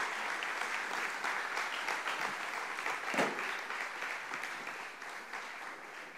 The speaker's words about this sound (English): I wonder if we could stand one more time and give the Lord a hand clap of praise and appreciation. Amen.